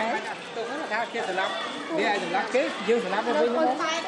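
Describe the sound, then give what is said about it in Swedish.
A steady murmur of many overlapping voices fills Psar Tenei, the large, domed, yellow central market building in Phnom Penh, Cambodia, a continuous crowd chatter with no single voice standing out and no pauses. “Surret ni hör i bakgrunden är Psar Tenei. Centrala marknadsbyggnaden i Kambodjas huvudstad Phnom Penh.”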